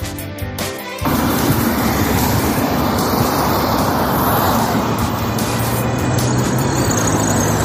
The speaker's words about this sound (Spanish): Bueno, el ruido y la suciedad y la contaminación que supone el paso de miles y miles de coches circulando debajo de tu ventana. Bueno, pues eso es lo que sufren un día tras otro los vecinos de Batán, Campamento y Lucero, que viven al lado de la A5.